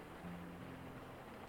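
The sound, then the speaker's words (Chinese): A steady, soft wash of suddenly started rain hisses evenly throughout, faint and continuous, with a low hum briefly underneath and no voices. “怎么突然下雨了？”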